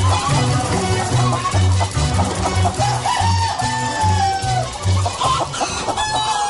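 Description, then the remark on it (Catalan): A noisy, rowdy farmyard full of clucking, squawking chickens with occasional crowing, blended into a song over a steady rhythmic thumping beat. The birds chatter loudly and continuously throughout. “i torna a aparèixer la fanfària final que ens anuncia la revolució i es fon precisament amb el so d'un corral absolutament esvalotat que suma el moviment d'aquesta gallina que de fet fa 47 anys que crida això de visca la revolució.”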